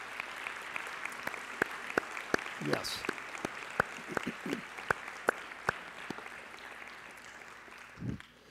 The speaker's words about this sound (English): So if you would affirm these people's membership covenant, would you give them a round of applause this morning?